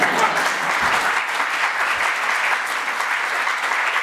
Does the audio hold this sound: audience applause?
yes